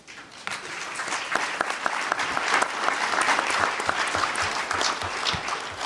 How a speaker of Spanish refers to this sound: pero a todos quienes han colaborado para que esta sesión salga con éxito, les pido igualmente un voto de aplauso.